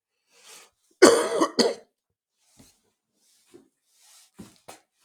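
A harsh double cough bursts out loudly, followed by a few faint, scattered throat noises and breaths in otherwise quiet surroundings.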